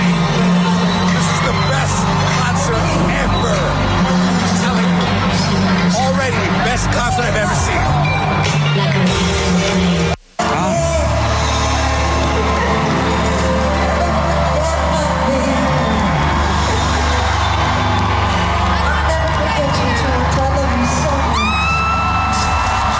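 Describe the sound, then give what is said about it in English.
A loud live crowd at a a singer's concert in Toronto roars and cheers over booming music, with excited whoops and screams, including one fan screaming, rising from the audience throughout, briefly cutting out before resuming at full intensity. “That would be me screaming in the background.”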